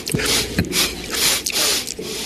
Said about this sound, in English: I looped all of the sniffs from the debate. Very weird.